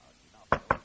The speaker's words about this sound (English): There was a rap at the door.